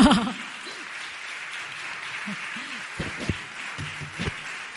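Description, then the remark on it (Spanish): Steady applause from an audience, a dense, even patter of many hands clapping, with a few faint voices and murmurs poking through underneath. “Y yo creo que he acabado antes de lo previsto, así que me merezco un aplauso, ¿eh?”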